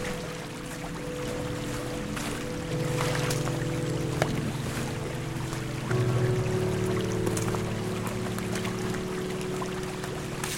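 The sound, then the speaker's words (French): Steady, continuous rush of water from a small stream that flows into the Vienne river and a small spring-fed fountain that runs all the time, an even wash of flowing sound with a low droning hum beneath it that shifts slightly partway through. “Voilà, petite fontaine, le ruisseau que je vous disais tout à l'heure qui coule, qui rejoint la Vienne, puis la fontaine qui est là.”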